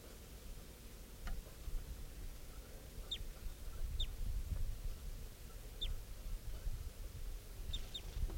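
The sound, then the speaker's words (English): A wild adult male bird, flying around low near bird cages, gives a handful of short, high, downward-slurred chirps at irregular intervals, fairly faint over a steady low rumble of background noise, with no one talking. “Recording this wild bird, adult male, is just flying around low near the cages of the birds.”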